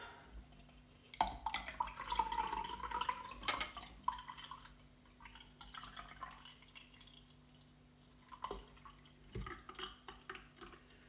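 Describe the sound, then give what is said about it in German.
Cola Cherry from a can splashes into a glass, the pour's pitch rising as it fills, then a soft crackling fizz of bubbles with scattered drips and small pops. No one speaks. “Es ist nicht normale Cola, es ist die Cola Cherry, also noch ein bisschen süßer. Und die kommt dann jetzt dazu.”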